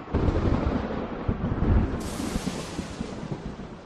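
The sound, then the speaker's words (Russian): A deep, rolling rumble of thunder churns steadily for a few seconds, heavy, with irregular booming surges in the low end and no voices. “Он боялся громких звуков, и иногда собственное стадо пугало его не меньше, чем раскаты грома и вспышки молнии.”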